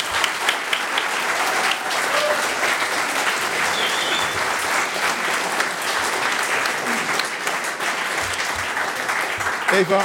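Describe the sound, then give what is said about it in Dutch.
Sustained audience applause for four performers, a dense steady wash of many hands clapping at a fairly loud, even level for the full stretch, with no break or fade. “Mag ik nog één keer een applaus voor deze vier kanjers?”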